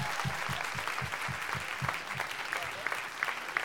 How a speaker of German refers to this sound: Ein Applaus!